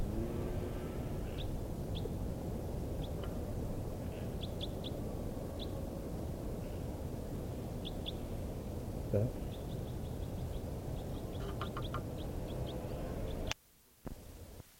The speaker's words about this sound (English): I'm in the dunes now, and I'm hearing calls of type 4 birds. This is the type 4 calling series.